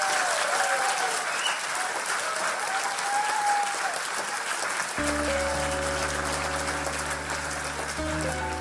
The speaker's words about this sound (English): And ladies and gentlemen, please give a massive round of applause to Professor Lance Workman.